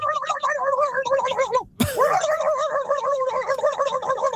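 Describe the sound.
A human voice does a five-second imitation of a turkey gobble with a rapid, wavering, throaty warble in bursts, broken by a brief pause and sharp click before the gargling gobble resumes just as loudly.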